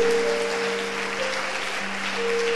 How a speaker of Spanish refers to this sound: Alguien le da un aplauso por eso al Rey de la Gloria.